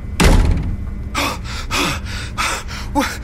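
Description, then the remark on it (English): A door slams shut with a loud thud, followed by several ragged, panicked gasps and heavy breaths in an uneven rhythm. “Close the door.”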